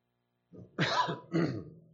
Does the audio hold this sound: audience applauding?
no